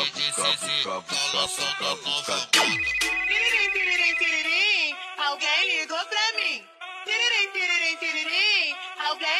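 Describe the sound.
A melodic phone ringtone plays loud and close, with bright, repeating electronic tones and a warbling, voice-like melody. It follows a short burst of rhythmic music that ends in a sudden downward sweep.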